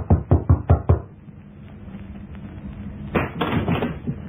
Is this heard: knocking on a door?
yes